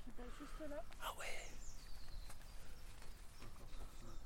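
Outdoors in nature, where someone is doing handiwork, a few short bird chirps and whistles sound in the first second and a half, then only a steady outdoor background hiss with faint scattered knocks.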